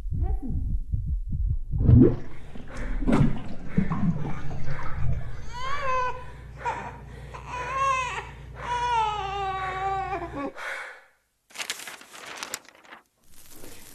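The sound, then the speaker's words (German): A muffled, rhythmic heartbeat thumps low for a couple of seconds, then gives way to a baby's wailing cries over a steady low hum, ending in a few crackly noises. “Herzschlag.”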